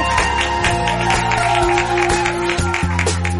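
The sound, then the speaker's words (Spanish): Applause and clapping burst out over a bright, sustained musical backing. The claps make a steady, dense patter that holds loud for the whole few seconds, and nobody speaks. “¡Sí, un aplauso!”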